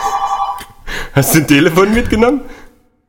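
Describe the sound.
A telephone rings with a quick, warbling electronic trill for just under a second, clear, then cuts off as a voice starts talking excitedly.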